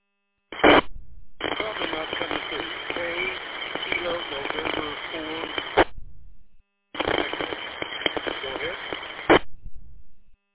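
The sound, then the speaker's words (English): Two bursts of a weak, noisy, band-limited ham radio transmission with low modulation come through a repeater from a station at the edge of the repeater's range, with a faint voice buried under heavy hiss. Each burst opens and closes with an abrupt squelch click, separated by brief silence. “Your modulation is really low. And you got a little bit of noise on your signal.”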